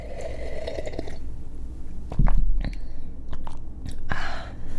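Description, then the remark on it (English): Wet chewing of mochi, a soft, sticky food, with squishy smacking mouth sounds in an irregular rhythm and a louder burst midway. No talking. “Green tea and mochi are best friends. They go so well together.”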